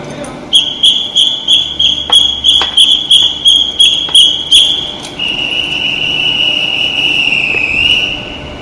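A night train's chief conductor blows a shrill, high-pitched departure whistle: a quick series of about ten short, evenly spaced blasts, then one long, steady blast that wavers slightly before cutting off.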